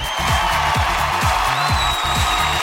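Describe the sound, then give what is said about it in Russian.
Steady, dense clapping fills the whole stretch as a constant crackling wash, with a rhythmic low musical pattern pulsing underneath and no voices. “Но про мяч спросили впервые, поэтому, Олег, вам аплодисменты, вам победа, вам футболка, ура!”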